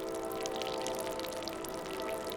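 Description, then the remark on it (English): Brine drips from a sack of salt hung to drip dry in the J.Q. Dickinson Sun House in West Virginia, in quick, irregular little taps, soft and scattered over a steady low hum that fills the quiet background. No one speaks. “A train passes in the distance, but it's quiet in the J.Q. Dickinson Sun House, except for the sack of salt dripping dry.”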